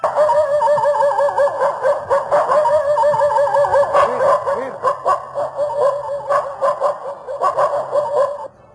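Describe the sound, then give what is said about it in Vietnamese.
Two yellow dogs bark excitedly at strangers, a steady, overlapping flurry of sharp barks and high yips mixed with whining, continuing without pause before cutting off abruptly. “Hai con chó vàng nằm liêm chim tại cửa, thấy dàn khách lạ thì tuôn ra mà sủa.”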